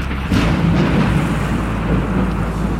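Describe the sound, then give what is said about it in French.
A deep, sustained rumble of thunder from a storm that Poseidon unleashes on the Greeks' voyage home rolls on loudly with a sudden swell near the start, broad low-frequency roar and a faint hiss of rain beneath, no voices present. “Elle a demandé à Poséidon de déclencher une tempête lors du voyage de retour des Grecs.”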